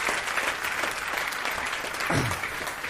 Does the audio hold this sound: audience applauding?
yes